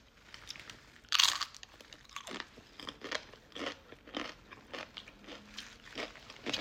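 A loud, crisp crunch from a bite into crunchy food filled with birria meat, followed by several seconds of repeated wet chewing and smaller crackling bites.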